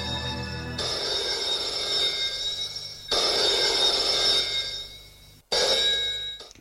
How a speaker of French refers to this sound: Le lendemain matin, Boris est à son bureau. Le téléphone sonne.